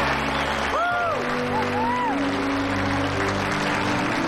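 An audience claps steadily throughout after the winner of a contest is announced, a dense, continuous patter of many hands, with a few rising and falling whoops or whistles poking through early on.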